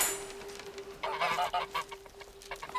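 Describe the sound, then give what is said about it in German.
Geese honk in a burst of overlapping, nasal calls that start after a brief quiet moment and keep going in quick, uneven repeats, moderately loud, with no talking, as they are driven out of a farmyard in the morning. “Am nächsten Morgen trieben Elisabeth und Kürtchen wieder die Gänse aus dem Hof.”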